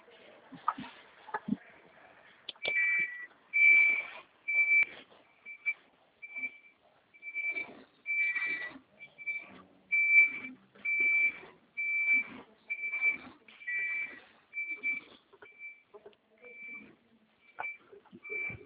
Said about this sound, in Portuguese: Deixa eu encostar o caminhão, porque eu trabalho com caminhão tanque, eu vou carregar ele aqui.